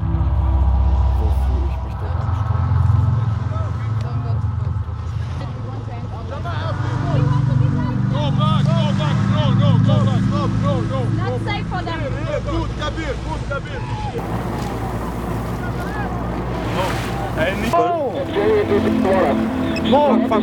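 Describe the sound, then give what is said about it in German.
A boat motor drones steadily for the whole stretch, a deep continuous rumble with wind buffeting the microphone, while voices call out indistinctly over the engine noise. “Wir ziehen an den Motor, die wollen viele den Motor fahren.”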